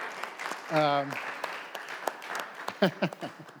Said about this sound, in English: So we're coming up to our baptismal celebration on July 31st. Yeah. Yeah, just clap for that. That's something to clap about.